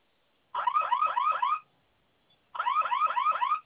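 A security alarm panel siren wails loudly in two one-second bursts separated by a short gap, each with a rapid warbling sweep, with no one talking over it. It is set off by holding the panel's two flame-symbol buttons together for five seconds.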